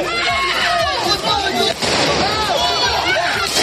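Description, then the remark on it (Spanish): A loud, chaotic night-time street scene in Marseille, France, of clashes between police and protesters: dense crowd shouting and screams, with sharp bangs and pops bursting through the din. “Esta pasada noche en Marsella, por ejemplo, los enfrentamientos entre agentes y manifestantes sonaban así.”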